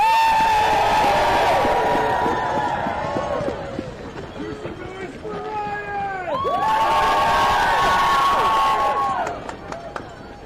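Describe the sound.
A loud crowd cheers and shouts continuously, with many overlapping voices and whoops, dipping briefly in the middle before swelling again and fading at the end.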